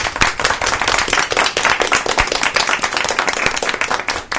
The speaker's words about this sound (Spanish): vamos a darle ese aplauso a Miguel y a todos los que se van a atrever a contar